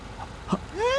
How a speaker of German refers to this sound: Los, rüber zum Parkplatz. Dieser Kastenwagen. Das Licht ist eingeschaltet. Ja. Der Motor läuft auch.